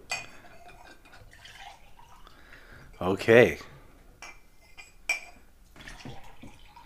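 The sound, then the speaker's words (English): A short pour of pineapple juice into a tall glass for a drink of one part Fireball to two parts pineapple juice, with a gurgling, clinking splash lasting under a second. Brief speech and soft kitchen clatter surround it. “So one part Fireball, two parts pineapple juice, and it's going to taste like pumpkin pie?”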